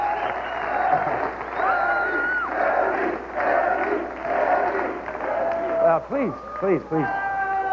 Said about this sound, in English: Yeah, you can tell the audience has been primed to, like, oh, just laugh and stand up and cheer, you know, every time Chevy does something funny.